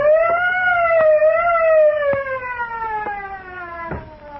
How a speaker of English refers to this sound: What's that? Holy mackerel. That fool, he's broken the auto alarm system.